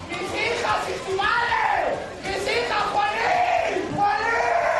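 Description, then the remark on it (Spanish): A man, the husband of a woman killed the day before, screams in anguish outside the courts in Aranjuez, loud and continuous, with long drawn-out wailing cries that rise and fall in pitch over nearly five seconds, other voices mingling faintly beneath. “Lo que escuchamos, Ángel, son los gritos desgarradores del marido de Monse, una de las cuñadas que moría ayer por la tarde.”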